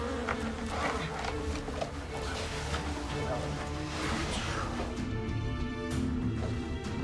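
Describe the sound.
A dense, steady drone of many bees buzzing together, close and continuous, as if from within an enclosed hollow, with muffled voices now and then behind it.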